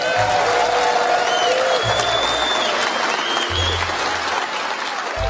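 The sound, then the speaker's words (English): Steady, dense applause from a large crowd at an NRA meeting as executives enter the stage and Wayne LaPierre is introduced, with scattered whistles and cheers rising above the clapping and occasional low thumps underneath. “As the applause dies down, the audience can clearly see that resting on the table is a name tag for Oliver North.”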